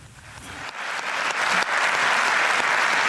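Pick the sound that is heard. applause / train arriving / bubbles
applause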